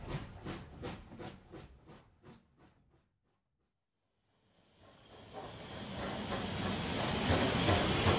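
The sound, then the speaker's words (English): A steam train carrying passengers, a dog and sheep in its carriage chuffs in a steady rhythm that slows and fades out, then after a short silence a loud hiss of escaping steam swells up and keeps going. “The train puffs along.”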